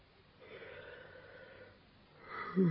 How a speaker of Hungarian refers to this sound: Ásítozol a feleséged társaságában?